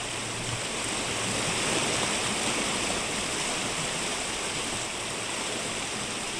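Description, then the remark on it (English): Longclough Brook, just off Primrose Lane, roars steadily in full flood, recorded at the waterline, carrying debris and broken branches past at full speed; a dense, constant wash of rushing water spread across a broad range like white noise, loud and unbroken throughout with no voices. “It was hard not to notice the sound of water. So it comes as no surprise that I climbed down to the waterline and recorded it.”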